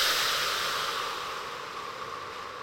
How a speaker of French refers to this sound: Prends une profonde inspiration pour te redynamiser. Souffle fortement.